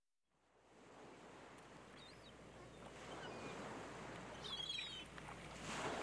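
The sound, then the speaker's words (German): Steady rushing surf of sea waves breaking on a beach in the morning, swelling gradually louder, with faint bird chirps overhead and no voices. “Schnell ans Meer.”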